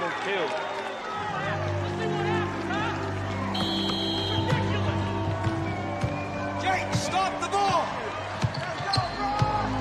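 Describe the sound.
A basketball is dribbled down a court in a steady run of bounces during a St. Vincent's game, with sneakers squeaking on hardwood, a crowd murmuring, and voices talking throughout.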